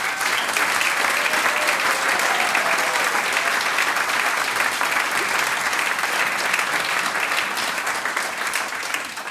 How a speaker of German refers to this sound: Alles Gute und nochmal Applaus für die Juliane.